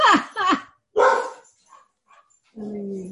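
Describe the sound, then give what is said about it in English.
A dog barks three times in quick succession, fairly loud, in the background of an online group call, followed by a brief lull with faint scuffs and then a steady, drawn-out whine. No one speaks. “Okay, I'll make sure I mute myself for a second till somebody handles the dog.”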